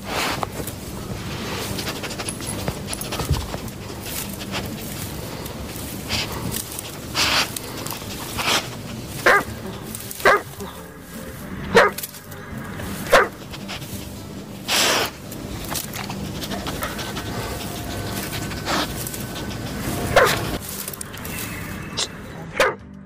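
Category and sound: animal, dog barking and whimpering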